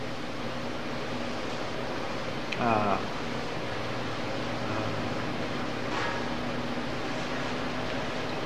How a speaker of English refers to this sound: This is hard with this guy revving his engines here.